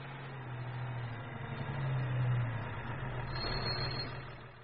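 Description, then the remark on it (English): A truck engine idles steadily with a deep, low rumble, holding a constant hum throughout with a slight swell in the middle, heard alone without any voices. “There's the truck.”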